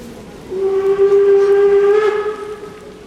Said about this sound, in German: Berlin, Anhalter Bahnhof, Januar 1890.